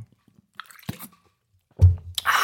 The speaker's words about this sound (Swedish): Som man säger, så han har tog en klunk subtilt kortsyrat mineralvatten.